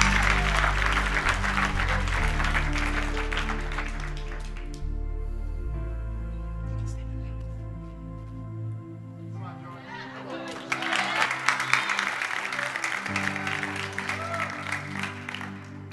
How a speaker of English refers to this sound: Let's give her a clap.